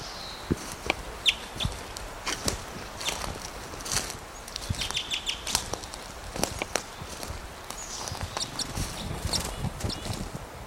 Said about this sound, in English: Gave some alarm calls, being chased by a western tanager.